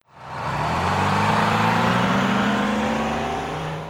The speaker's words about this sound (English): Watch out! It's a truck.